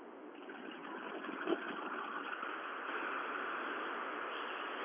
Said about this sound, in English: Okay, now the whole window is open. You can hear the wind noise and the engine noise on the highway.